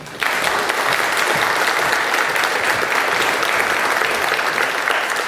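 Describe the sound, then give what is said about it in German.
An audience applauds to welcome a talk on the Open Railway Map project, steady dense clapping starting abruptly and holding at an even, loud level throughout, with no voices over it. “Viel Spaß und dann bitte einen Applaus.”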